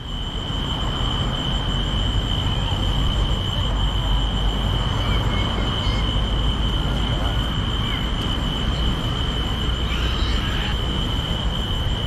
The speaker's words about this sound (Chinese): 而接下来要放的这一段声响是也在海边上，有夏虫的叫声， 还有一只小狗，好几次偶遇的小狗的声音，你听，还有海风的声音。